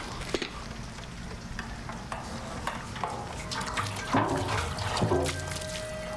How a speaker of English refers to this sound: She's knocked out, and this bitch is pouring gasoline everywhere.